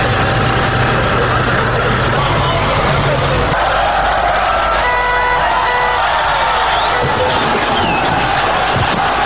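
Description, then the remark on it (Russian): An archival recording of a crowd of thousands applauding and cheering in a steady, dense wash of sound as the 1951 Felix Dzerzhinsky monument is taken down on Dzerzhinsky Square, Warsaw, Poland, on 17 November 1989. A low engine rumble drops away partway through, with faint mechanical whines rising briefly. “Как можно услышать на архивной записи, снос установленного в 1951 году памятника проходит под аплодисменты собравшихся.”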